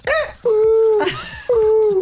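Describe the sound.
A person loudly imitates a very loud bird call heard at about 5:30 in the morning, giving three sustained, whistle-like hooting notes in quick succession, each beginning with a short rising or falling swoop, clear with nothing behind them.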